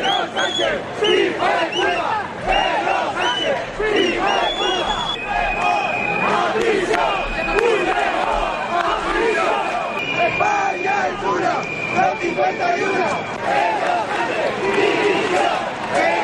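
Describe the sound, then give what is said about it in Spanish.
A large crowd with many flags boos and shouts at the president of the government on 12 October, a dense roar of overlapping voices with sustained shrill whistles cutting through, loud and unbroken throughout. “Muchas banderas y muchos abucheos.”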